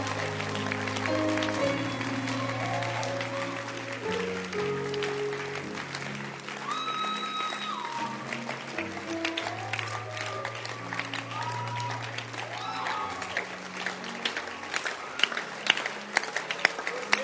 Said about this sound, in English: Keep clapping. Make yourself. Make yourself. Now, as you are clapping your hands, begin to pray while clapping your hands. Pray. Pray. Pray.